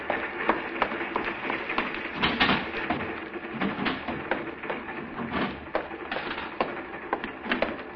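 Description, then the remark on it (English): Someone hammers and pries open a wooden baggage crate routed through to Hanover: a steady, irregular stream of sharp knocks, cracks and rattling wood for several seconds, with no voices. “All right, have you got a hammer? But I have no authority. Get me a hammer.”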